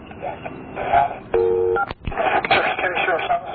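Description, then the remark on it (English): A clear, steady telephone keypad dialing tone sounds for about half a second, loud, amid muffled background voices and room noise, as a call-taker dials to reach an investigator. “Hold on the line with me, and let me see if I can get an investigator on the phone, okay?”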